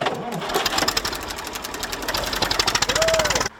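A tractor engine, started by its owner to test the icy, snow-covered village road, runs loud and steady, its rapid rhythmic chugging pulses filling the whole stretch, with a brief high squeal near the end.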